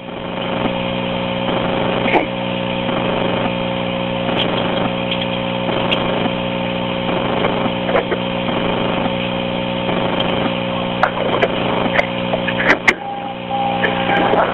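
A car pulls up with a steady engine hum with strong harmonic tones throughout, joined by a whirring motor like a power window; a few sharp clicks and knocks punctuate it near the end.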